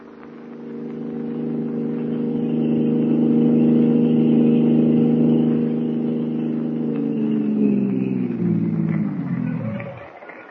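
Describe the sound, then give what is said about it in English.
A car engine drones steadily for several seconds, a rich low hum, then its pitch sinks and the sound winds down as the car slows at the end. “My car, we should reach your apartment in a couple of minutes.”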